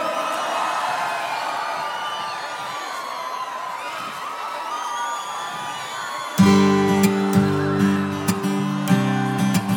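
A large crowd shouts and cheers in a loud, sustained roar for several seconds after being asked to shout, then live music kicks in over the lingering crowd noise.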